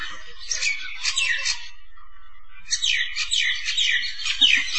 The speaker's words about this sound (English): It's a serenade. They're singing and singing. Very nice. It's a bird concert. There's different voices. This one's very loud.